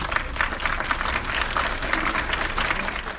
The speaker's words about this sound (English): Domestic workers applauded after a recent screening in Mexico City that was organized specifically for them.